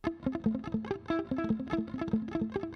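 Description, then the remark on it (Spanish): A clean electric guitar picks a quick melodic line through a delay effect, each note followed by softer repeating echoes that blur into a steady, cascading rhythm. No voices. “Así suena el delay.”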